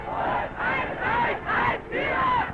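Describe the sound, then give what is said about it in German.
A large crowd cheers and shouts in rhythmic waves, four swelling bursts of massed voices rising and falling like chanted acclaim, loud and continuous with no single speaker audible, as it welcomes the Wehrmacht marching into the Sudetenland on 1 October 1938. “Die Wehrmacht wird beim Einmarsch am 1. Oktober 1938 jubelnd empfangen.”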